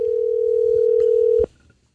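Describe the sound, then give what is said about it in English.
A steady, droning telephone dial tone, as a person gets on the phone to return a robocall, holds for over a second, then cuts off abruptly with a click, leaving near silence. “So I got on the phone and made the call twice.”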